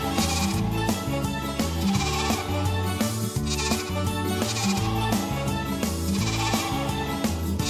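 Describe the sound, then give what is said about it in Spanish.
A voice imitates a sheep's bleating in drawn-out, wavering baas, showing how the sheep on the farm sounds in a farm song, over a loud, steady backing of music that runs throughout. “que nos va a contar cómo hace la oveja del tío José.”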